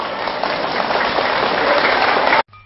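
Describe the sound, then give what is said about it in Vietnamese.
A loud, dense burst of applause from a crowd of students after a teacher's advice, steady and sustained for over two seconds before cutting off abruptly to near silence. “Nếu các cháu thấy rằng là những lời khuyên đó là có thể thực hiện được và việc làm đó là tốt cho bản thân mình, hãy dâng cao tràng vỗ tay thật lớn.”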